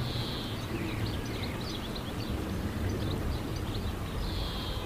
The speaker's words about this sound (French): Alors, il est en arrière-plan, j'espère que vous l'entendrez. C'est le verdier d'Europe. Il fait une espèce de petit chant grinçant. Je ne sais pas si vous l'entendez en arrière-plan.